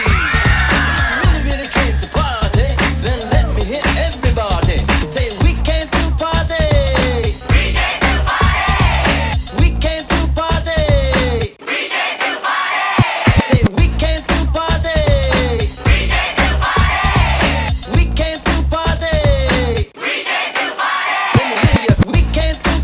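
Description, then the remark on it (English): A loud, dense crowd roars and screams continuously, with sharp percussive hits throughout and brief dips around the middle and near the end, like a packed live concert audience cheering. “Party people, if you're ready to rock, let me hear you scream.”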